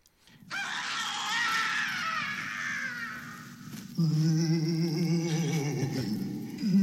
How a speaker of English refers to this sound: There was a side that sort of told stories, and then there was a second side that had the raw elements. And Q13, I believe, is the first cue of that second side where it was screams. Oh, ghost screams.